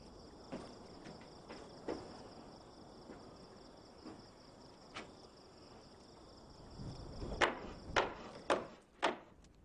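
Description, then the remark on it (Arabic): Someone knocks on a wooden door, with a few faint taps early on and then four loud, evenly spaced raps near the end, over a steady background of chirping crickets. “لما تضرب هكذا؟ اذهب إلى الداخل. افتح لي الباب، أنا أنوح على غربتي ووحدتي.”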